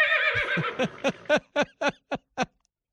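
A horse whinnies loudly in a commercial, a wavering high call that breaks into a rapid series of descending, pulsing snorts before fading out, with no other sounds around it.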